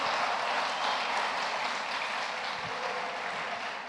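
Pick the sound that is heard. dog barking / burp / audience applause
audience applause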